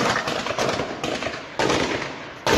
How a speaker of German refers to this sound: Der junge Mann soll gezielt auf Polizisten geschossen haben. Diese hätten das Feuer erwidert.